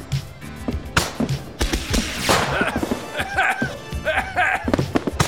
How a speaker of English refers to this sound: Oh, I shouldn't have bought the jumbo pack. So many fireworks. There's so many fireworks.